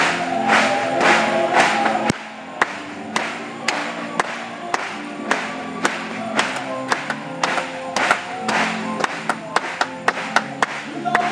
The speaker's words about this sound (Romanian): Hai să o aplaudăm lui în dimineața aceasta.